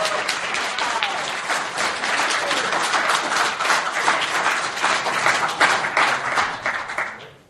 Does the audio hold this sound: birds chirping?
no